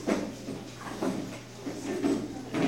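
A chair scrapes and bumps as it is dragged a short way across the floor to move it out of the way, a few muffled knocks and slides, with steady room hum underneath and no talking.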